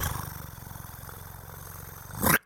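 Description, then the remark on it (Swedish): A voice imitates a drum roll with a soft, low, rapidly pulsing trill held steady for about two seconds, then cut off by a short, louder burst of noise. “Det var en väldigt blyg trumvirvel.”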